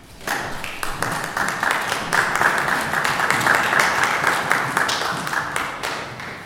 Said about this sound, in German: Der Applaus galt euch, wie ihr es wisst.